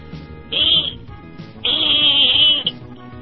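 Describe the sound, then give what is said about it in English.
A voice imitates a pig squeal in two shrill, high-pitched bursts, a short one followed by a longer, sustained squeal, loud with no other talking. “No, it was a pig squeal.”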